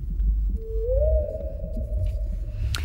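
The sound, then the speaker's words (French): A blue whale's long, low moaning call in the ocean rises slightly in pitch and then holds steady for about two seconds, heard alone over a deep, rumbling underwater background. “Bonjour, belle baleine bleue, toi, le plus gros animal existant sur notre planète, eh bien, plus gourmand, bien plus gourmand qu'on ne le pensait.”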